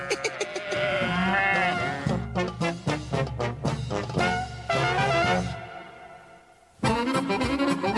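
Wavering, nasal sheep bleats ring out over a busy, rhythmic music track, loud, breaking off briefly near the end before returning.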